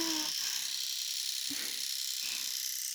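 An electric shaver buzzes right up against the mic, a steady, hissy whir that holds at an even loudness throughout with no talking.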